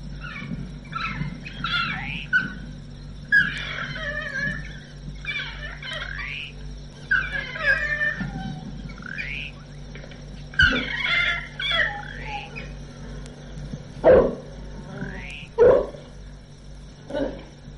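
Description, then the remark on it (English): A pack of African hunting dogs barks and howls: bursts of high, twittering yelps and chirps overlap throughout, with a few sharper barks and short howl-like cries near the end, steady. “a member of the canine family, is the friendless African hunting dog who sometimes tears his prey apart whilst it still lives.”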